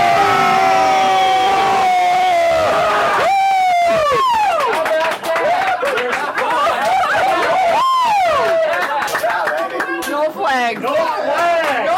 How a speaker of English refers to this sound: It doesn't get much better than cheering on his beloved Vikings at Lambeau Field